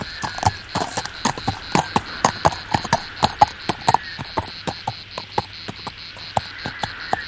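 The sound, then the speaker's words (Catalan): The hooves of a single approaching horse clip-clop in a steady, even rhythm of sharp knocks throughout, on an arid, windy plain in great heat, over a constant high buzz of insects or crickets. No one speaks. “Sembla que s'apropa un cavall.”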